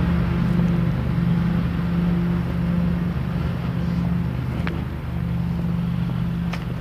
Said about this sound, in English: That's amusing. A leaf sucker.